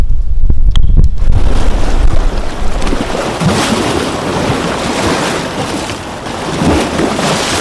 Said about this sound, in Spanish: Pronto se formaron inmensas olas capaces de alcanzar el cielo. Se produjo un espectacular maremoto, un tsunami como nunca antes se había visto.